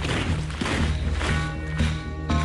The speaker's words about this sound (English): War has its trademark sound. For World War I, it was boots marching.